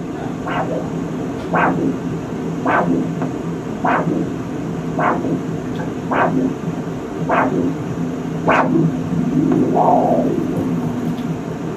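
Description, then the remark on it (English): A whooshing arterial pulse at the ankle, with a blood pressure cuff inflated until the artery is blocked, beats in a steady rhythm, about once a second for roughly nine beats, over a constant low hum and hiss, ending in a longer wavering swell. “Now, when you listen this time, you'll hear that same whooshing kind of sound, but then you'll hear it go away, and then it'll come back.”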